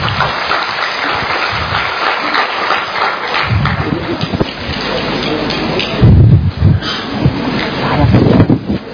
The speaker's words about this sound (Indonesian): Ya, mendapat kehormatan kelompok 1. Silakan kelompok 1. Oke, tepuk tangan dulu untuk kelompok 1.